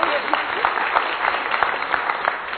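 A crowd claps steadily for a couple of seconds, a dense, even patter of many hands with a few sharper claps standing out, no voices audible.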